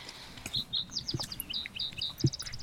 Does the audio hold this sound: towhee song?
yes